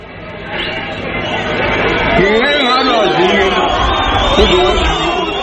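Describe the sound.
A crowd of mostly Zulu hostel-dwelling men in a park in central Johannesburg, South Africa, jeering Buthelezi as he appeals to them to stop attacking foreigners: a dense wall of overlapping shouts and raised voices that swells and stays loud, with pitched yells rising above the roar throughout.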